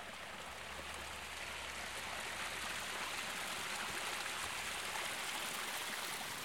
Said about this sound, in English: So if you walk through here, you could hear the sound of water flowing down the different water courses and rills here and culverts from the underground springs above the garden.